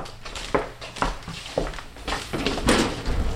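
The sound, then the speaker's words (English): A drawer of a specimen cabinet in an insect collection room is pulled open, with a few wooden clunks and knocks followed by a longer sliding rumble as it rolls out. The sound is fairly loud. “Farrell walks to one of the cabinets and pulls open a drawer.”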